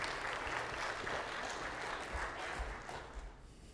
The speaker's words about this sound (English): Well, y'all encourage Seth and give him a round of applause.